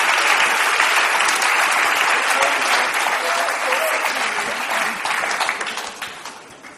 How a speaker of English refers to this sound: They are applauding you. Thank you.